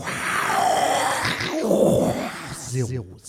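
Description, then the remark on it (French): A man's voice imitates the MGM studio logo lion's roar as a jingle: a long, rough, growling rasp that swells and falls over about three seconds, ending in a short voiced grunt, loud. “Alors je vous fais, j'enchaîne le Lion de la MGM avec Jean Image.”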